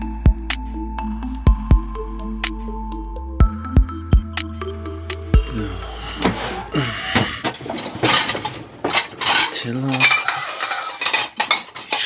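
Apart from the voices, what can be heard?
dishes clattering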